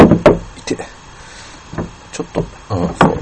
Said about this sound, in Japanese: すごい可愛い、古いけどちゃんと閉まるねんな。あ、ちゃんと閉まるねんなと思ったら閉まれへんわこの引き出し。あかんや、なんで閉まれへんの、なんで閉まれへんの。